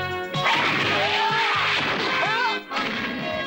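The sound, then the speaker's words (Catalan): The doors of a gym burst open with a loud crash and two boys are thrown out, a dense, roaring burst of impacts and whooshing, swooping tones that stays loud throughout and briefly dips before surging again. “Les portes s'obren de cop. 2 nois surten disparats cap a fora.”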